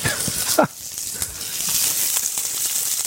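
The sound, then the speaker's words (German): Shrimp sizzle steadily in a hot frying pan with garlic, chili and rosemary, a dense crackling hiss that fills the whole stretch, with a brief voice or clatter near the start. “Jetzt ist heiß genug. Und dann die Garnelen. Sieht ein bisschen aus wie Südfrankreich in der Pfanne.”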